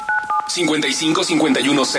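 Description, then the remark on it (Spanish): A quick run of telephone keypad tones, several short beeps in fast succession, dialing the phone number of a radio studio booth, then a person starts talking right after them. “El teléfono de cabina es este. Ahí te va.”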